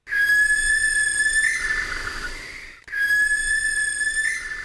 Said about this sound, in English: There you go. That's the screech of a barn owl.